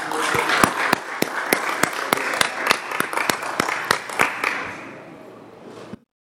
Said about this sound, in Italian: Un applauso.